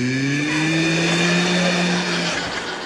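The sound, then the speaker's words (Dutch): A voice buzzes a steady, droning airplane-engine noise, as when playing airplane to feed a small child a spoonful of porridge, holding a low humming pitch that rises slightly for about two seconds before trailing off. “Nee, dat is vliegtuigje, zo van...”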